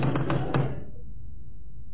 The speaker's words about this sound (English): Knock on the door.